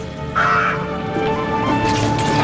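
A big crow caws loudly, a harsh drawn-out call followed by more rasping caws, heard alone against a steady background hum with no one speaking.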